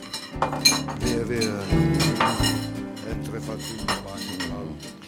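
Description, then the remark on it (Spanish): Plates and cutlery clink and clatter in quick, irregular bursts as a waitress brings the dishes and sets them down one after another, over a low, steady background murmur. “La camarera llevó los platos demorándose.”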